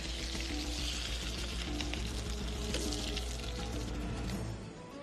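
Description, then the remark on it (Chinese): Lamb chops sizzle steadily in a hot pan as they are pan-fried until golden on both sides, a dense crackling hiss that holds for several seconds before easing off slightly at the end. No voices. “出锅后煎至两面金黄”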